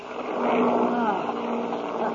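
Airplane motors drone with a rough, continuous hum, their low, throaty tone wavering slightly as they run unevenly, with no voices over them.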